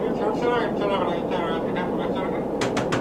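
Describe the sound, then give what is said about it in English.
Three sharp knocks on the door of a commercial jet airliner, aloft high in the sky at night, land in quick succession at the very end, cutting through a steady roaring cabin drone with muffled voices underneath. “I think there's somebody knocking on the door of your airplane.”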